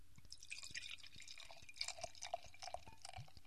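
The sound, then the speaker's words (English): Sour-smelling, ruby dark amber beer is poured into a glass, a soft, steady trickle with fizzing and small splashing drips throughout, fairly quiet, with no voices. “Now we pour the beer.”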